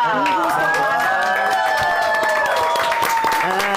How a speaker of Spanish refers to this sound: Aplausos.